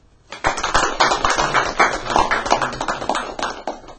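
A crowd bursts into applause, many hands clapping in a dense, steady patter that holds at a fairly loud level for several seconds with no voices over it.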